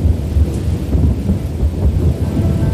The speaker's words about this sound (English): A long time ago out west, a storm rolled off the mountains. The huge thunderclouds rumbled and growled.